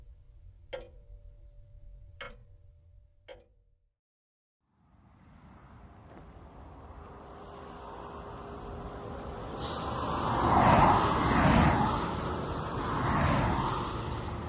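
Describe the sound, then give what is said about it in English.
A sports car driven by a teenager speeds past on a road, its rushing roar swelling to a loud pass and then another fading whoosh, after a few sharp ticks and a brief silence. “You'd think people would see me sitting by the side of the road and swerve out of the way.”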